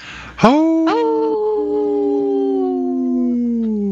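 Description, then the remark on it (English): A group of five people howl together in imitation of wolves for a Howling for Wolves sponsor spot on Native Roots Radio, several overlapping voices rising sharply and then holding long, wavering tones for a few seconds, loud. “Hey, this portion is brought to you by Howling for Wolves, protecting wolves for future generations.”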